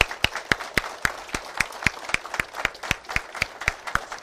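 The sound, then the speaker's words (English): An audience at Anchor Baptist Church applauds a man receiving his ordination certificate, with sharp claps falling in a steady, even rhythm over a continuous wash of scattered clapping. The applause holds at a moderate level throughout, and no one speaks. “Let's give him another round of applause, all right?”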